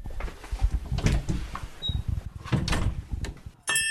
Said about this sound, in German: werde nun gleich die Türe öffnen zu der Sattlerei Schied hier in dieser kleinen Gasse